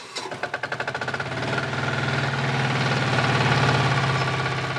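A diesel generator on a farm, standing in the grass next to the stable, starts in the morning with rapid chugging pulses that quicken, then settles into a loud, steady low drone with a rough mechanical rattle. No one speaks.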